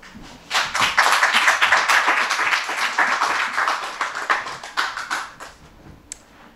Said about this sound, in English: Clap.